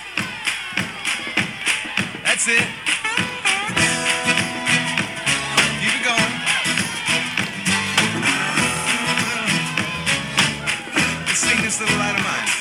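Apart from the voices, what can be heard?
group clapping hands together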